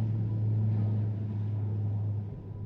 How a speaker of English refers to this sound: It's an hour after sunrise, that is, about 6:15 on Tuesday the 22nd of January 1946, and an Australian National Airways DC-3 is lifting off from Brisbane's Archerfield Aerodrome.